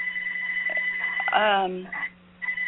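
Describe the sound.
A phone rings through a participant's open microphone on an online group call, a steady, high-pitched electronic tone that breaks off briefly near the end, under a low constant hum, while a voice speaks briefly over it.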